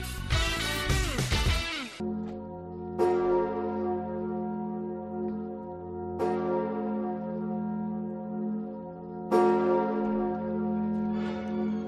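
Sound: large cathedral bell tolling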